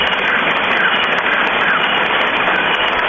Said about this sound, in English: Thunderstorm in this jungle environment they were recording in. And there's the rain.